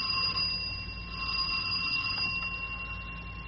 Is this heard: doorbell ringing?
yes